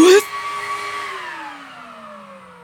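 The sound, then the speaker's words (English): A vacuum cleaner whirs as a pet's cage, Bruce's cage, is hoovered, starting with a loud rush of air before its steady motor whine slowly drops in pitch and fades as it winds down. “I'm going to hoover Bruce's cage.”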